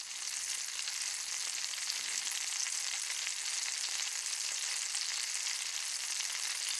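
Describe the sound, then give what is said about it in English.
Steady sizzling and crackling of sausages frying in hot oil in a kitchen, a continuous bright hiss with fine popping that holds at an even level throughout, no voices. “That's the noise the oil makes when it gets really hot and you put something on it.”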